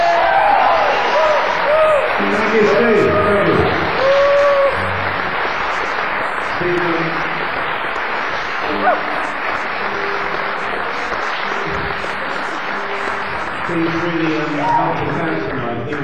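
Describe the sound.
A concert crowd claps and cheers steadily as a band is introduced, a dense roar of applause broken by scattered shouts and whoops, loudest in the first few seconds before settling into sustained clapping.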